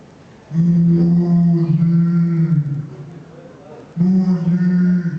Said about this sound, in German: Jetzt die Kuh. Die gefräßige Kuh. Kann es nicht unterlassen, auch etwas dazu zu sagen, als sie jetzt plötzlich Musik hört.